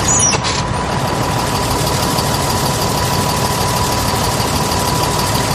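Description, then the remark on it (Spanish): A bus engine idles with a steady, loud low rumble and faint rattling vibration, continuous throughout, after a brief hiss at the very start. No one speaks. “Se sube al autobús, que está algo más vacío de lo habitual.”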